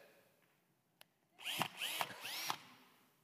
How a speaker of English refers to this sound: All right, when you first pick up a cordless drill, what do? You typically do this, right? Yeah. Right? Make sure it's there. Right? Why? What is that? It's a test. It's evidence. Of power.